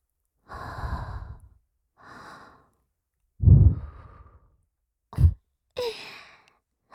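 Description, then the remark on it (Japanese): Breath blown close to the microphone in several airy exhales with pauses between, one fuller and louder sigh in the middle followed by short, sharp puffs. No talking. “僕の吐息、どう？”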